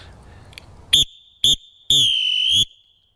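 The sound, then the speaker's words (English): A dirty old pea whistle blown as a full-time whistle test, two short blasts and then one long one, shrill and high-pitched with a slight rattling warble from the pea, heard on its own without talk. “This is my dirty old pea whistle.”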